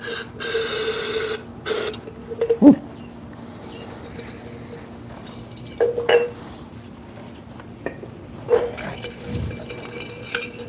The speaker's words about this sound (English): So I'm just got enough brake cleaner in there now where there's like a puddle, and I'm just kind of swishing these bearings around in it, and it's turning the brake cleaner very black.